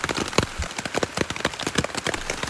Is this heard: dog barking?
no